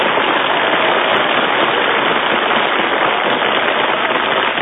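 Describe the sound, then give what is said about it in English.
An audience applauds as a vote for contestant number 2 in a contest, dense overlapping hand claps forming a loud, continuous crackling wash with no voices and no break for the full few seconds. “Your applause only for number 2,”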